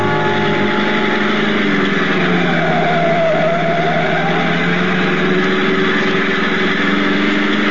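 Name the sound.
car engine running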